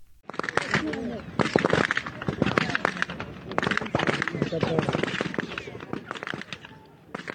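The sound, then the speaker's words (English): Rapid, repeated gunshots crack sharply and almost continuously, loud, as Israeli forces fire on Palestinians near the Zikim crossing in Gaza on July 28th, over a background of shouting, agitated voices for the whole stretch. “Journalist Anas Al-Sharif posted this video of Israeli forces firing on Palestinians near the Zikim crossing on July 28th, and just a warning that you'll hear a lot of gunfire.”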